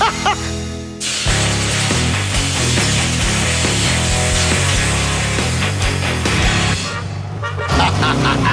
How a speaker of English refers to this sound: Danny picks up this Myers dune buggy. It's a pretty sweet little ride. So we decided to take it out on the road for a little test drive